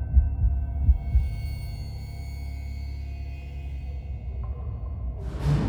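Deep, pounding heartbeat thumps beat over a low, throbbing drone, then fade into the steady hum before a rising whoosh swells at the very end. No voices. The heart pounds as someone gasps and stumbles away from a window.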